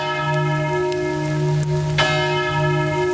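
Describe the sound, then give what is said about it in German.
Church bells in Haltern am See, Westphalia, ring out steadily at 10:41 in the morning in remembrance of the Germanwings plane crash victims, their deep sustained tones overlapping in a rich, continuous peal with a fresh strike around the middle, heard alone with a faint hiss like light rain in the background. “Heute Vormittag, genau um 10.41 Uhr, läuten die Kirchenglocken in Haltern am See.”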